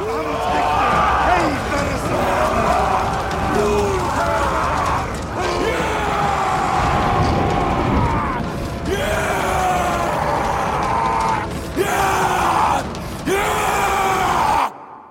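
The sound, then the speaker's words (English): In a film scene, a group of men playing Vikings chant in deep, rhythmic unison during a warrior dance around a bonfire at night before a raid, the voices swelling into loud, guttural roars and shouts before a single drawn-out howl by actor Alexander Skarsgård rises at the end and cuts off. “The chant turns into roars, and at the end, you hear Skarsgård howl.”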